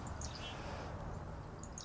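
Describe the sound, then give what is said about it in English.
Small songbirds, chickadees, chirp in a few thin, high notes near the start and end, faint over a steady outdoor rumble. “Yeah, that's those little chickadees.”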